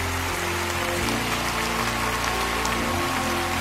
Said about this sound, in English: Come on, Lakewood. Let's give them a clap as they stand all over.